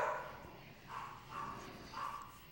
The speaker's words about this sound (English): Speaking of extreme, the extreme! The extremely loud barking in the background? Yeah.